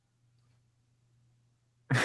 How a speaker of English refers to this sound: I am dying. He mutes and coughs again. I can't kick whatever cough I have.